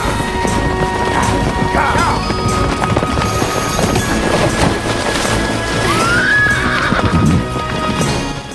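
A horse that is being encouraged to enter a river whinnies twice as its hooves clop and splash into the shallow water, amid a steady, dense wash of noise.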